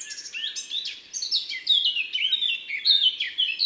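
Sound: eurasian blackcap song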